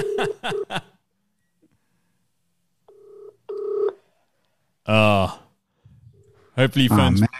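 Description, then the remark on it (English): A quick burst of phone keypad tones as a call is placed to a guest, then two electronic ringback tones as the call rings out, followed by brief bursts of voices. “Hopefully we're not playing the missed call game.”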